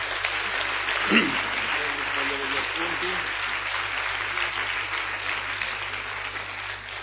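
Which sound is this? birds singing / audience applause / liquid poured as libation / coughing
audience applause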